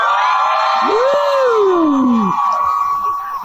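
A crowd cheers loudly and steadily for a few seconds, a single long rising-then-falling whoop cutting through the roar before it eases slightly at the end.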